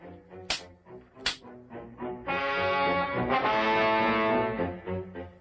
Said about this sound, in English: Impatiently, he tried to get the donkey to go faster, but to no avail. Get up. Get up, you slowpoke. The sting of this whip will put some life into you.